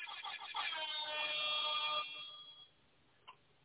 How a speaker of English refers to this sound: Man, we got to get my air horn. Let me get my air horn.